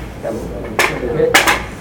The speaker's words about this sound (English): So anyway, give it a hit. I want you to know it's a real half-inch plate-glass mirror. Give it a hit. Give it a hit. Give it a hit.